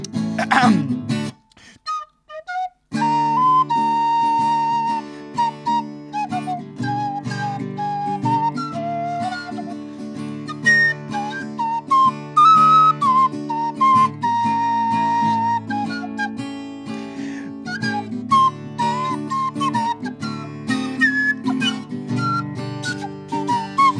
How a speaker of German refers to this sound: Und auf Sunset Boulevard pfeife ich ein Lied für dich.